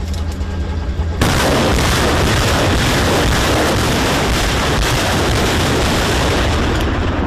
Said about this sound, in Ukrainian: Эта установка залпового огня «Град» как раз отбивает очередной российский штурм.